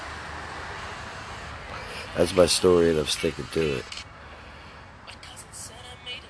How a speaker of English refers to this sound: Oh, check it out. In other news, I'm in the middle of New York City. That's why you hear all the traffic.